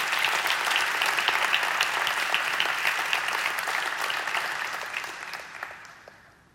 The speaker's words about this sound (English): But I thank God. He promises to be with us every step of the way. Would you give him a hand clap offering tonight?